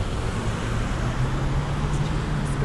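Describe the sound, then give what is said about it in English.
Steady traffic noise from cars on the street outside, a continuous low engine rumble and road hiss that stays at an even, moderately loud level throughout, with no voices. “There's a lot of traffic outside.”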